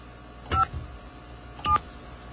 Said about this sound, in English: We're going to call the phone number now. Okay. Hey, I can decode DTMF in my head. Now, remember, you have to tell me what buttons to hit.